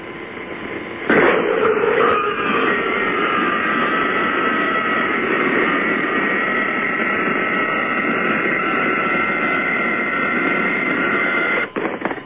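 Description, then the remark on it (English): A sharp clunk of a freezer door opening, then a creature's harsh, sustained screaming wail over heavy static hiss for about ten seconds, ending with another clunk as the freezer shuts. “This is opening the freezer, him screaming, and closing the freezer.”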